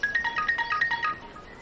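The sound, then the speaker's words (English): A woman's phone rings with a quick electronic ringtone, a rapid warbling run of high beeping notes lasting about a second before cutting off as she answers it. It sounds clear, with no talking. “Molly's mom answers her phone.”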